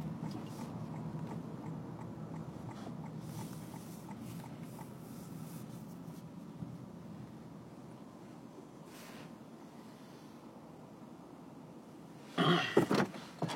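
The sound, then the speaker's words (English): Steady low rumble of a car rolling slowly into a gas station, the engine noise easing off as it comes to a stop, followed by a brief clattering burst near the end. No one speaks. “I'm pulling into the gas station without incident.”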